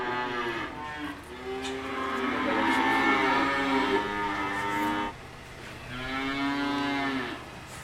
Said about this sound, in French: Donc là, c'est ici où ils se trouvent les veaux. Donc là, c'est les veaux, chaque matin, ils ont du lait, au début, quand ils commencent à être jeunes.